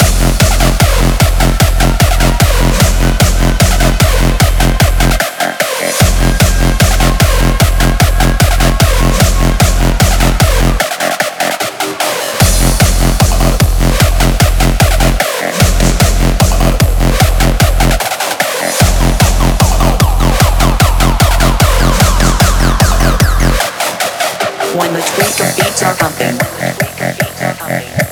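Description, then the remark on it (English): A loud, driving dance track with a heavy pumping reverse bass pulsing under a steady, fast beat, broken by several brief drops where the low end cuts out before slamming back in. “Hey, tweakers, bring back that reverse bass.”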